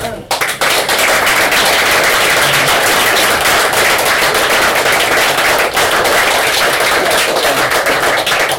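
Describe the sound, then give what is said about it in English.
A crowd applauds steadily for about eight seconds, a loud, dense crackle of many hands clapping at once with no pauses, starting abruptly and holding an even intensity throughout. “Of course, we need a clap for that one anyway.”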